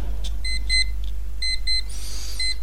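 A debate timer alarm, sounding when a speaker's 10 minutes are up, beeps in quick repeated electronic bursts, pairs of bright tones pulsing in a steady rhythm, clear over a low steady hum, ending in a brief swelling chime.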